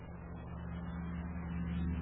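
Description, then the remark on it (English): A steady engine rumble with a low droning hum, like a car driving along at an even pace, growing slightly louder toward the end. No voices are heard. “Stop the car here, Happy, and turn off the light.”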